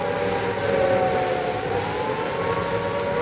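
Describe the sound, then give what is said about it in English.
A steady wailing siren drones continuously at a constant pitch at moderate loudness over a low rumble of traffic, with no voices present, heard at the entrance of an air raid shelter within sight of Lord Nelson's statue on top of his column. “I'll just let you listen to the traffic and the sound of the siren for a moment.”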